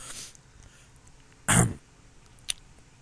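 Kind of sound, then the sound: human body sound, throat clearing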